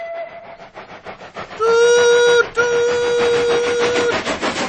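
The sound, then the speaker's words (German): The whistle of Thomas, a steam locomotive, sounds in two loud, steady blasts, the first shorter and the second held longer, over rhythmic chuffing and rumbling train noise. “Das ist Thomas' Dampfpfeife. Alle Dampfloks haben Pfeifen.”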